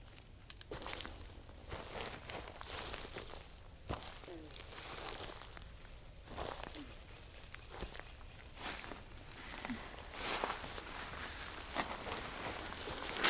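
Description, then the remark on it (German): Footsteps crunch and rustle through brush or dry leaves in the bushes up ahead, a steady series of soft steps over a hissy outdoor background, with no clear talking. “Ja, das klang nach Schritten.”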